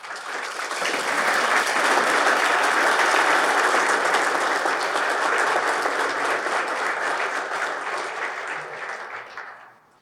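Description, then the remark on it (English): A crowd applauds a newly promoted firefighter at a fire department promotion ceremony, clapping steadily in a dense, even wash lasting about ten seconds, holding strong before tapering off and stopping abruptly at the end, with no voices. “Obviously, being promoted is a big deal in your career, so give another round of applause to our promoted.”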